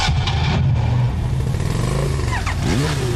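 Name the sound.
engine starting and revving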